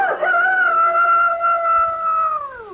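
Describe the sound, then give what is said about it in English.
A rooster crows once in a long, loud, drawn-out call, holding steady before dropping off at the end, with no voices around it. “Never again will anyone get me to sing with my eyes closed. For a rooster who closes his eyes”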